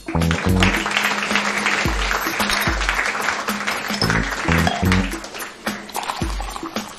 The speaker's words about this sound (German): Und jetzt euer Applaus und eure Bühne.